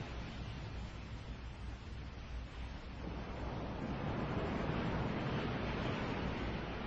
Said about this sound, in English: That's a louder ocean sounds.